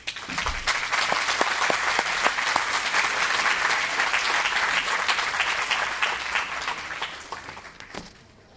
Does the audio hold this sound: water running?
no